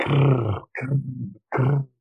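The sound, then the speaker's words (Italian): A voice imitates the sizzle of lava flowing down from an erupting volcano, the lava rolling over on itself, with three rough, gravelly bursts: a long first one, then two shorter ones after brief pauses, low and loud with a crackling, growl-like texture. “cioè la lava si, come dire, avvoltola su se stessa e senti questo sfrigolio della terra infuocata.”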